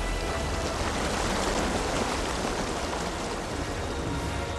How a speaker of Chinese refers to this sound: 这个时候屋外暴风雨总是继续，艾森豪威尔将军和其他将军商量第二日是否要采取行动。